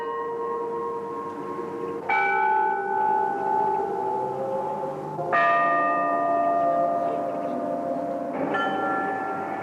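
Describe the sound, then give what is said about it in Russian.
The bells of Gethsemane ring out in a slow, uneven sequence of strikes, each one blooming into a rich, sustained hum that overlaps the next. The tolling is fairly loud and steady, with no voices. “Звучат гефсиманские колокола.”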